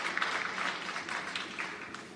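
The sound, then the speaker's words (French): A short burst of steady applause from a small group, a dense patter of many hands clapping at once, fairly quiet and even throughout, with no voices. “On les applaudit.”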